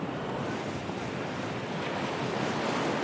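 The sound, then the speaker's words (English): Steady, roaring wash of ocean surf breaking on a shore in Puerto Rico, a dense continuous rush with no pauses, loud, with a hint of wind and no voices. “A song that describes the beautiful waves that have, and will always, bathe Puerto Rico.”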